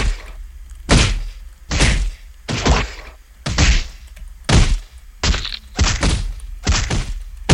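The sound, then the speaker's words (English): Punchy video game hit effects land in a steady series, about nine or ten sharp thwacks with full-range impact, some coming in quick pairs, loud with no talking, as a player punches by pressing the A and G buttons. “Okay, now I get two punches.”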